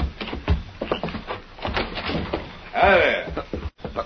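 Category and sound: household object, door opening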